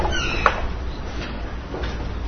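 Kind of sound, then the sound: household object, chair creaking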